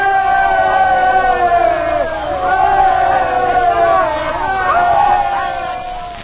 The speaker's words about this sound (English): So before you settle back to enjoy yourselves, let's have three rousing cheers for His Majesty.